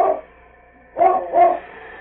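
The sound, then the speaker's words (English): The dog King barks sharply three times while loping ahead on a scent, one bark clipped at the start, then a quick pair after a pause, loud against a quiet background. “They were running in the hope of getting their dogs and sled when they heard King behind them.”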